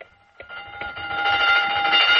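The electric closing bell of Kane's department store rings continuously with a steady, shrill metallic tone, starting after a brief pause and swelling louder over about two seconds, with no voices.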